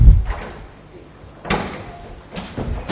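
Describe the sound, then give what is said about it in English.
A door is pushed shut with a sliding scrape and a firm thud, followed by a second softer knock near the end; the sounds are fairly loud, with no talking. “Let me quickly close this door.”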